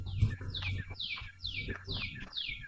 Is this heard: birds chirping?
yes